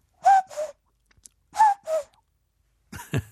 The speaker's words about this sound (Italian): Abbiamo un osso buco sulle spalle e dentro questo midollo specializzato, pieno di circuiti complessi ed eleganti, ma come schema identici a quelli per mezzo dei quali questi uccelli invisibili sparsi per il bosco fanno.